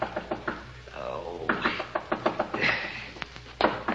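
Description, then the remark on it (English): Repeated sharp knocks rap on a hotel room door, room 500, in uneven bursts, crisp, with faint murmuring voices and shuffling underneath. “But just when you settle down to hibernate, the knocking starts.”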